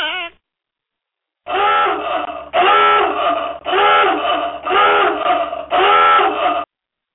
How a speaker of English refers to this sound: that sounded like a rare donkey to me. It could have been. We may have to look that up in the in one of ALBC's stud books.